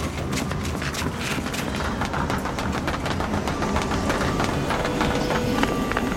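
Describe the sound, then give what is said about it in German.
Quick, steady footsteps pound along a hard surface at a running pace as people run to a train station to catch a train, continuous, with a busy, echoing station-like background hum. “Da vorne ist schon der Bahnhof. Wenn wir rennen, dann schaffen wir es noch.”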